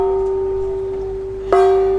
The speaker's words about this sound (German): Salonstewardess Mimi läuft über die Decks und ruft die Gäste mit einem weithin hörbaren Gong in den Speisesaal